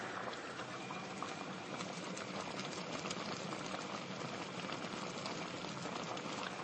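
A pot of water boiling steadily while being simmered and stirred, recorded on an iPhone on a rainy day in the rainy season, with dense, continuous bubbling and crackling, fairly loud and unchanging throughout, with no voices.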